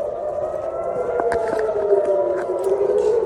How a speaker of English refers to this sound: Hamas has continued to fire rockets, with sirens sounding in southern and central Israel.